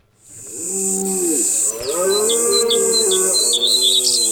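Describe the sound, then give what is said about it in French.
Birds chirp in quick repeated bursts over a steady high rural hum, while a cow lets out a long, loud moo in the foreground. “Chez toi, on fait peur aux oiseaux.”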